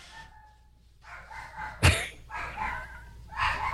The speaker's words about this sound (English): My dog is excited. Ozzy, you want to go for a ride in the Mustang? Come on, boy. Let's go for a ride in the Mustang.